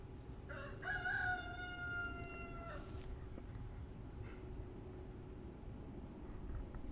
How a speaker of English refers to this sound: Actually, it's hard to tell if it's one of my roosters or the neighbor's.